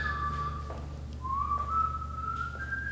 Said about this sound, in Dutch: Klinkt wel gezellig, zo'n fluitje, toch?